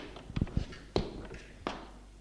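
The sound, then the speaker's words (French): A handful of slow, irregular footsteps thud on a hard floor, followed by a sharper knock as a bedroom door is pushed open, with quiet room tone in between and no talking. “Des pas. La porte de sa chambre qui s'ouvre.”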